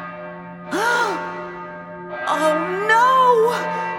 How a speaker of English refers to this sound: The third time he returned to the cave, he bumped the bell with his head. It started to ring very loudly.